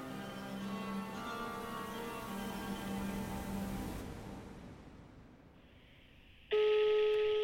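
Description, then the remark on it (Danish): Telephone tones as a call is placed to the caller's mother: a steady humming line tone fades over several seconds, a brief quieter tone follows, then a loud electronic ringing tone cuts in abruptly near the end. No one speaks. “Jeg ringer til min mor, for det slår mig sådan lidt, hvad fanden tænkte hun egentlig på at få børn med sådan en som min far?”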